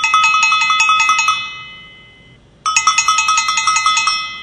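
The doorbell of a house in an arraiá (a small village) rings loudly, a rapid metallic trill in two bursts separated by a short pause, with no voices.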